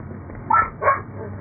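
A dog gives two quick barks in succession, moderately loud, with a muffled, slightly tinny quality over a steady low background hum.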